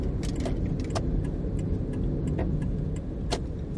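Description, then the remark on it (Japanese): Steady low rumble of road noise inside a moving car that is about to get on the expressway, constant and fairly loud, with light rattling and jingling clicks scattered throughout, like keys swaying. No one speaks. “もうすぐかな、もうすぐ高速に乗りますけどね。”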